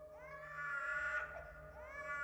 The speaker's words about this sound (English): Her next-door neighbor's infant son had been crying almost nonstop for the past 2 days.